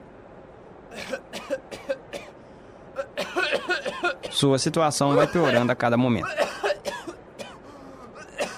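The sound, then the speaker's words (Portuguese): A man coughs hard in a series of harsh bursts that build into a strained, hacking fit, while a narrator talks over the coughing. “Um homem teve uma forte crise de tosse.”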